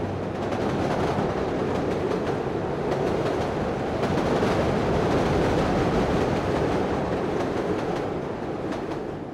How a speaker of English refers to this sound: Growing up in Chicago in the mid-20th century, the holiday season was launched by taking the L, an elevated train that morphs into a subway, into downtown Chicago,